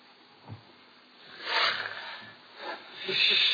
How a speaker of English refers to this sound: Falstaff! Behind the arras and snorting like a horse.